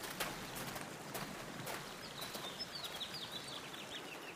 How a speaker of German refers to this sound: Der kleine Bach zu meiner Linken wird ruhiger.